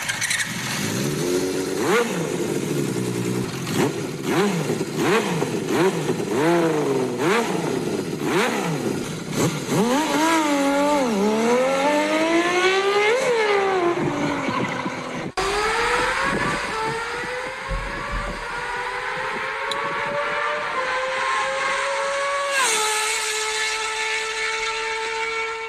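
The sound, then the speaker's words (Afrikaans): A six-cylinder Honda CBX motorcycle engine revs repeatedly, its loud, smooth high-pitched wail rising and falling in quick blips before climbing through long sustained revs, with no talking. “Goed soos daai 6 silinders Honda CBX'e.”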